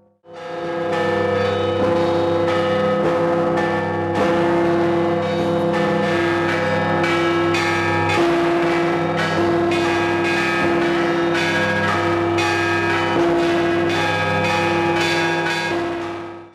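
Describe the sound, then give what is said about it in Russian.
Church bells ring out loud in a 15-minute blagovest toll closing daytime church festivities, with a steady run of strikes whose deep, lingering tones overlap into a continuous resonant wash. No one speaks. “Завершились дневные торжества 15-минутным благовестом в рамках акции церковного звона «Слава тебе, Боже!»”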